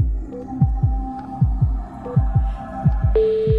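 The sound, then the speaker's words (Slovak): On Rádio Melody, a low, throbbing music bed pulses steadily like a heartbeat. Near the end, a bright, steady telephone ring tone for the station's call-in contest cuts in on top of it. No one speaks. “No a zrazu sa spustil ten podmaz a zvonenie.”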